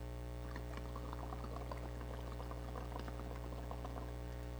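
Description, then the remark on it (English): Bubbles gurgle steadily as someone blows through a straw into a drink, a fizzy, irregular burbling lasting about four seconds over a low, constant background hum, fairly quiet. “It makes bubbles, right?”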